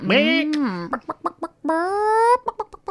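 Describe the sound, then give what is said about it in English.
A person in a studio imitates a chicken, with two drawn-out squawking bawks broken up by a quick run of short, clipped clucks. It's fairly loud, with no other sounds around it. “I think there might be another chicken in here somewhere.”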